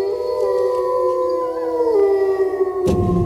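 Several wolves howl together in long, sustained, overlapping tones that slowly bend in pitch, fairly loud, with a low rumbling background and a brief thump near the end, from the film Le Loup shown on France 4.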